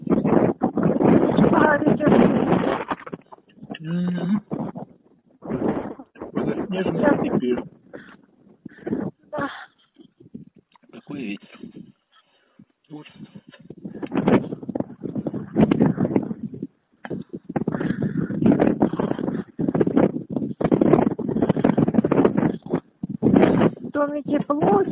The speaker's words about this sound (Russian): Что у тебя такое ветер?